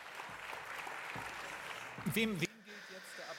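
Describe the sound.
Steady clapping from a crowd for those who cleaned up after the CrowdStrike outage, a dense patter of many hands, briefly topped by a raised voice before the sound drops away and fades to a softer murmur.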